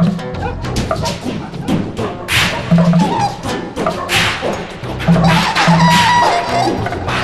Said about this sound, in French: Il fouetta le gros chien très fort.